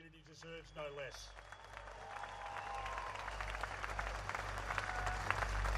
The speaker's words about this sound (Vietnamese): Tiếng vỗ tay là một phần trong sự chào đón nồng nhiệt mà ông nhận được khi tham dự buổi cầu nguyện ở vùng ngoại Ovoclus, phía đông Sydney. Đánh dấu lễ kỷ niệm một năm ngày xảy ra vụ tấn công ngày 7 tháng 10.